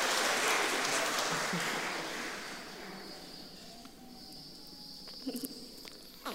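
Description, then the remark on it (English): A round of applause, given in thanks to God for a small newborn baby, bursts out dense and loud, then thins and fades over a few seconds, leaving quiet background with a few soft scattered claps and taps. “I think a cheer or a round of applause.”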